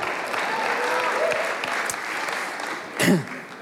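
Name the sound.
audience applause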